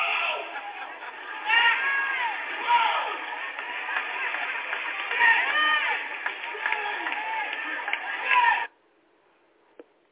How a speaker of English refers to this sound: that is … that you heard doing all that screaming and yelling